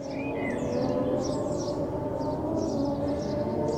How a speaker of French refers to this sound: Alors vous entendez des petits oiseaux ? Mais pas que. Derrière, il y a ça. Le ça en question est à plusieurs kilomètres, puisque là, ce son a été pris au Jardin des Plantes, vendredi matin vers 9h, avec des jolis petits oiseaux et un joli petit vent